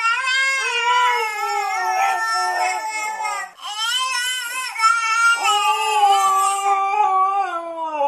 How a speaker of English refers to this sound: And now for your listening pleasure, a baby and a husky imitating each other.